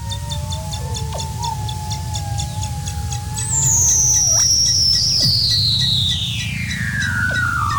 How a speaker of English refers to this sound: Let's listen to Weddell seals here.